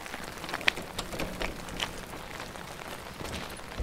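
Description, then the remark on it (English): Steady rain hisses across a surface, with scattered sharper drips and taps breaking through the even wash of noise. No one speaks. “At least the rain's good for something.”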